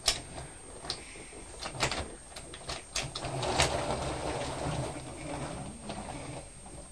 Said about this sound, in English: Is that train making a big noise? It is making a big noise, isn't it?